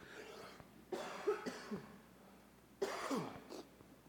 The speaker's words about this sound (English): Sorry, guys, I've been sick this past week. But for those of you that I have shaken your hands, I'm actually doing real better now. It's just got a little bit of a cough.